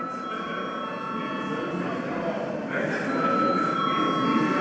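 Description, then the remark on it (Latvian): A parliament voting bell rings before a second vote on a bill amending a food circulation supervision law, a steady metallic electric tone that rings continuously for several seconds and swells slightly louder partway through, over a low murmur of room noise. “Lūdzu zvanu.”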